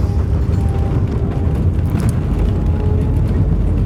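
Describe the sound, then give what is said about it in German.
A loud, steady low roar of a passenger airplane landing, heavy rumble filling the whole stretch with faint whining tones above it and no voices. “Ja, aber die Landung war doch gut.”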